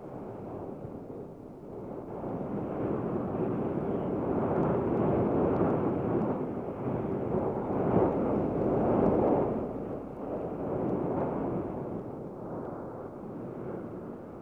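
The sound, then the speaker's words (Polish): A stormy sea pounds the shore of the seaside village of Niechorze during a storm lasting several days, in a continuous, rumbling roar that swells and eases slowly, heaviest in the middle. No voices, just the loud, steady wash of surf. “Ten jednostajny, równy szum walącego brzeg szalejącego morza wisi nad całą osadą.”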